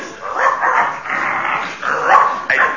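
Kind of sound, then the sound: animal, dobermann dog barking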